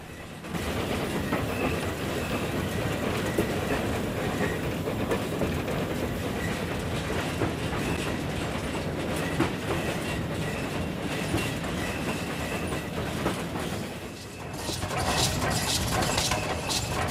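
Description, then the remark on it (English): A coal-fired steam locomotive pulling carriages rumbles steadily along the rails through countryside, its running gear up close, a loud continuous roar with a faint clickety-clack of wheels, briefly easing before surging back. “The locomotive's running gear up close, with the train's carriages stretching out behind and steam drifting across passing trees.”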